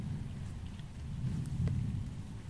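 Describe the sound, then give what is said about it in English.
Deep, rolling thunder rumbles beneath a steady hiss of rain on a stormy night, swelling louder partway through before easing slightly, with no voices present. “Yes, it's a stormy night. But soon thunder will be away, and only the soft sounds of rain will remain.”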